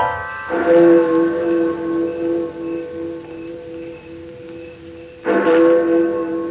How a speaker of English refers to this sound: Then let's give them a good clock. Eh? A great, rich, booming one. All right, Mr. Maydig. Let that there clock become a genuine London-style cathedral clock.